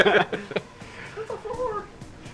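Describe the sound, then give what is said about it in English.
A short, rising-and-falling cat meow, fairly soft, follows a brief noisy burst at the start; it sounds once with a slight wavering tail. “You're not going to let my cat read it?”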